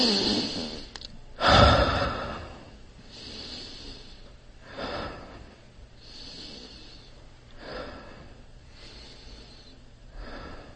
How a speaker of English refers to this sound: So with that, let's just keeping your body straight, maybe we can take a few breaths and then just be mindful of those breaths. We can take a heavy breath.